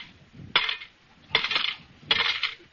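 Three coins totaling 40 cents drop one after another into a fine collection kitty in the radio show Our Miss Brooks, each landing with a bright metallic clink and a short jingling ring, spaced evenly about a second apart with no talking.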